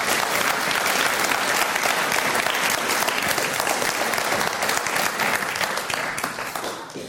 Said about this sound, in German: gebt dir doch einen Applaus.